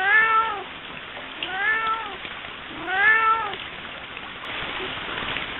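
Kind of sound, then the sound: animal, cat yowling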